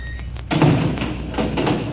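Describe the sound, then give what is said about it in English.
A key rattles in a door lock as it is moved to the inside of the door, followed by a solid clunk as the lock turns, then a second shorter round of handling noise, with no one speaking. “I've got to change my key to the inside of the door, or I'll never get out when that switch locks it.”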